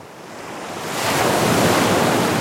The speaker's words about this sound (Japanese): 今日はこの波の音からお聞きください。